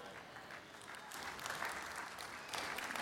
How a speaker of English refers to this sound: Can I give you a suggestion at this point? I feel we need to improve our clapping. If you are doing things, I feel nice when I clap because I feel some warmth come to my hands.